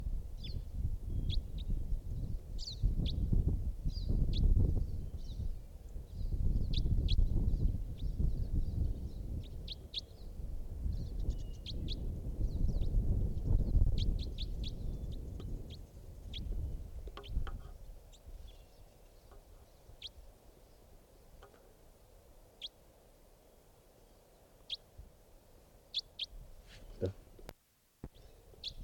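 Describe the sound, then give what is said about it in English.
A wild bird calls in the distance with repeated short, high-pitched chirps scattered throughout, heard over a low rumbling background that grows quieter in the second half. “That bird again.”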